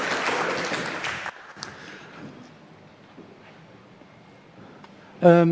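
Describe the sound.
A short burst of audience applause at Y2025, welcoming a woodworker and miller, dense and fairly loud, cuts off after about a second. A quieter stretch follows, then a voice or tone rises abruptly at the end.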